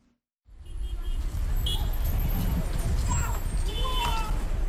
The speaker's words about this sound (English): Car honking, people rushing to work, vendors selling coffee by the side of the road, the streets of Abidjan look just like any other day, just a few hours after results were announced.